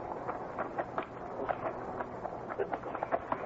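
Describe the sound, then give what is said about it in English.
Horses' hooves clip-clop in a loose, irregular patter as several animals move along together, the steps moderately loud, with no voices over them. “move all the horses and keep them quiet.”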